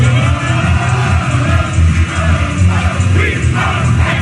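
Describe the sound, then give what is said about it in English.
The Penn State student section cheers and shouts together in a loud, continuous roar, with voices rising into brief yells and whoops throughout. “He's in there cheering with the Penn State student section.”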